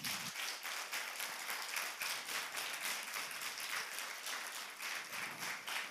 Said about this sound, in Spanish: Den un aplauso a Jesús.